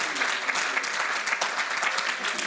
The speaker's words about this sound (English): You ought to clap conmigo. Your hands to the Lord tonight.